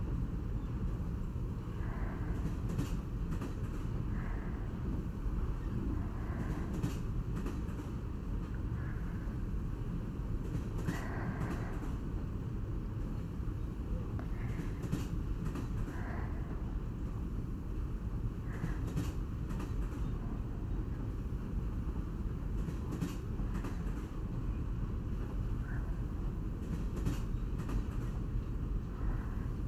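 The cruise train Royal Seven rolls steadily along the rails, a constant low rumble with faint rhythmic clicks and brief higher squeaks recurring every few seconds, heard from inside the carriage with no voices.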